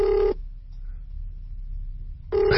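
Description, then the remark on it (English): A ringback tone on an outgoing phone call to someone's father, heard through the line: a steady electronic purr at the start, about two seconds of quiet with a low background hum, then the ring starting again. “So, the thing about my dad is I hope he answers.”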